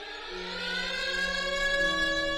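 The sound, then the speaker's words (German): A Ukrainian air raid siren, as it sounds at home in Ukraine, plays from YouTube on a green smartphone held up by a 16-year-old schoolgirl; a steady, sustained wail of layered harmonic tones that slowly rises in pitch and grows a little louder, with no voices. “So klingt ein Luftalarm bei uns zu Hause, sagt die Schülerin und hält ihr Handy hoch.”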